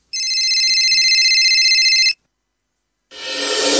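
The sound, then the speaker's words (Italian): A mobile phone rings loudly with a steady electronic trill for about two seconds, then stops before the voicemail. After a short silence, a harsh hissing burst swells in. “abbiamo trovato un'altra volta il telefonino di Dani e siamo andati un po' a scovare cosa nei messaggi sulla segreteria telefonica”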